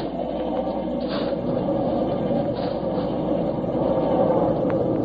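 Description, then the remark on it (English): A steam locomotive rumbles steadily along the rails, a dense, continuous roar with a low mechanical churn and a couple of brief hissing swells rising above it. No one speaks. “I mean we're meeting it with this engine and knocking it off the track.”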